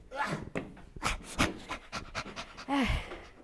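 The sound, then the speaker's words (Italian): Heavy, rapid panting after climbing many flights of a spiral staircase up a tall tower: a quick series of breathy huffs in an uneven rhythm, fairly loud, with a brief voiced, pitched gasp near the end and no speech. “Mamma mia, io ho già il fiatone, abbiamo già fatto tante di quelle rampe.”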